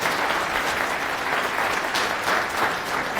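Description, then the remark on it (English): Steady applause from an audience at the end of a talk about a software project, a dense wash of many hands clapping at a constant, fairly loud level without letting up. “All right, thank you. Applause.”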